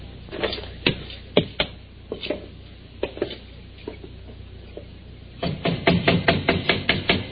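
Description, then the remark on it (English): Someone bangs on the door of a house with sharp, scattered knocks, then breaks into a rapid, heavier flurry of pounding near the end. No one speaks. “Don't be banging on the door.”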